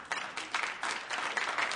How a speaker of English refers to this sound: What? That's all the applause I get?